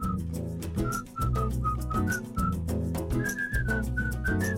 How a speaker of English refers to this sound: So I thought it'd be cool to write a hook that is the whistle, and within the hook, within the whistling parts, we write verses.